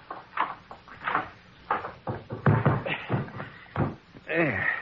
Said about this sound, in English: Just open that closet door.